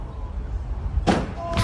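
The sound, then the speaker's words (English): A vehicle crash crunch: a sudden harsh, grinding impact bursts out over a low rumbling drone, followed moments later by a second loud crunching hit. “It was a good crunch.”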